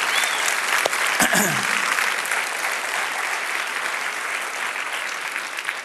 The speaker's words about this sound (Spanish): Si Dios te habló, dale un aplauso al Señor, que Él se lo merece.